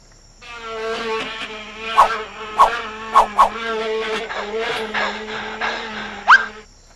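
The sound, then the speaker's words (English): Mosquitoes buzz in a steady, whiny drone for several seconds, fairly loud, broken by a handful of sharp snapping clicks spaced irregularly through the hum, as Sam the frog eats them. “Delicious. There's nothing like fresh mosquitoes.”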